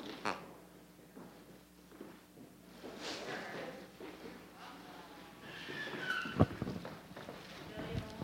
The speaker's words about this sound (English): And my sheep thanks you too. And he's quiet. Oh, there he is.